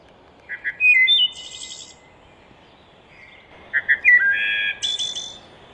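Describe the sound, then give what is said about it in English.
A wood thrush, a forest bird related to the robin and a little smaller, sings from a recording played on a phone: two phrases separated by a short pause, each made of clear, high whistled notes that run into a buzzy, shimmering trill. The song is loud, with no voices present. “It's related to a robin. It's about the shape of a robin, a little bit smaller. And this is its song.”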